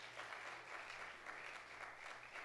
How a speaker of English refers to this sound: Now, go ahead and give the Lord a clap offering of praise.